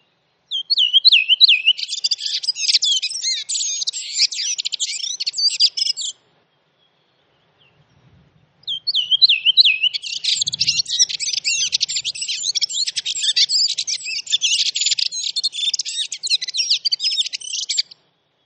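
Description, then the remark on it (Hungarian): A song thrush sings loud, bright phrases, each repeated in quick bursts and varied from one to the next, in two long stretches with a short pause between and faint low rumble. “az énekesrigót, ami sokszor vonulás során is nagyon aktívan énekel, és hát ezt a tipikus, nagyon messziről hallható, ismétlő és változatos énekét tudja előadni.”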